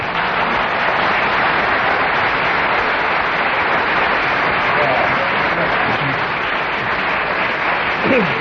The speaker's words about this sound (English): Well, that round of applause which came spontaneously from the audience was because Kenneth Williams kept going for 1.5 minutes on the subject.